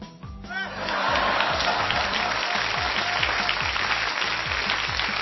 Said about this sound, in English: Oh, do we give it the clap clap applause and hear hear? Or does it get the dreaded toilet flush?